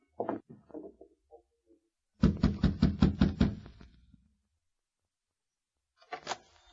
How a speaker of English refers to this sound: Hey, you knock on the door.